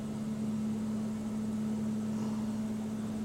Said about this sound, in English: He has a giant vacuum cleaner. He's sucking up all the, like, cups and shit that were left there. That's probably primarily why they hire him, to get rid of the dirt or the trash that people leave.